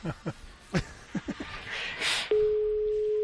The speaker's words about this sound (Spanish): Te voy a dejar el sonido del teléfono y tú directamente hablas con ella.